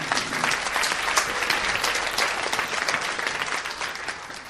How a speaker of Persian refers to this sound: مرسی، تشویق رو بکنید.